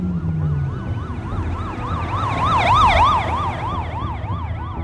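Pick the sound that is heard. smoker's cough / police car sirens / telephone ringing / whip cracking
police car sirens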